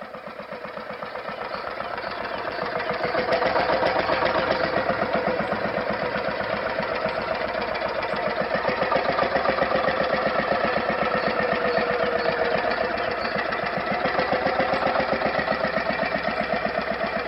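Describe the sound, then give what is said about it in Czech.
A stationary Lorenz diesel engine driving a straw press chugs steadily under load, its rapid even beat rising slightly after a few seconds and holding strong throughout, with a clattering mechanical rhythm and no voices. “Můžeme si to poslechnout třeba na práci stabilního dieslu Lorenz, který právě pohání les na slámu.”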